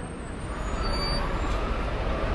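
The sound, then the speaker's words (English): A steady, dense rumble of street traffic with a heavy engine drone as the M104 city bus arrives at Times Square, New York, holding an even level throughout with faint high hiss above. “So I'm here at Times Square, and the M104 has just arrived about 15 minutes behind me.”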